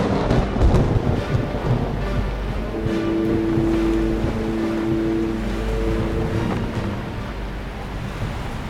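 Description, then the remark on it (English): Storm winds roar around a sailing ship near the eye of the storm in heavy rain, a loud, steady rush of wind and churning sea, with a low moaning howl swelling through the middle before fading back into the noise. “We're near in the eye of the storm! Hoist the mizzen and raise the topsail!”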